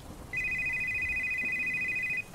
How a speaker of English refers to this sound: We had someone pick up an order around 10:15, but we had nothing else until 10:50, when the phone started ringing.